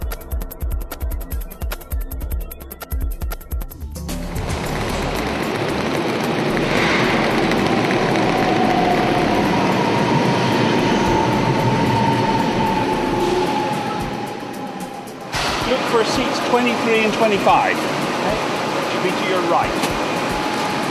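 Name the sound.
train riding on rails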